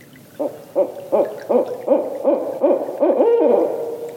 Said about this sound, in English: The sounds you've been hearing of the barred owls calling were given to us to use by the Macaulay Library at the Cornell Lab of Ornithology.